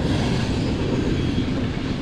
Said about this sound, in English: When a train comes barreling through like that and the engineer is leaning on the horn, there's no sound equipment in the world that can keep that terrible distortion from happening.